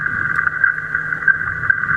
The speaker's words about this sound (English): And you can hear the pinging in the background, a little ping, ping, ping. It will vary according to what tag it is. So the pings have a certain sequence and number of pings. And that's what we are hearing.